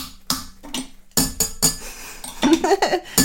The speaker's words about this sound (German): Wir müssen die Kaffeetassen aneinander knallen. Warte mal, schön. Prima, los.